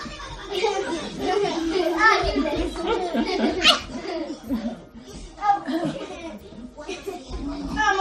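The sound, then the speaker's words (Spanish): Several children chatter, shout and giggle over one another in a lively, continuous commotion, their high-pitched voices rising in bursts of laughter throughout, during a busy family morning at home with breakfast and school backpacks. “Y este sonido, el de los hijos haciendo pues de niños por la mañana, con el lío del desayuno, con las mochilas, con el follón de pensar en la extraescolar que toca ese día, con quién recoge al chaval,”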